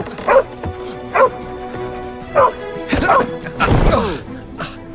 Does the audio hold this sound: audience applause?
no